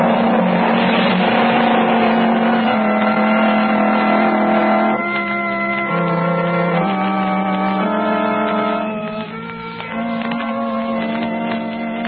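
An ambulance arriving, its engine roaring loudly and steadily for about twelve seconds, with the pitch stepping up and down a few times as it slows. No one speaks.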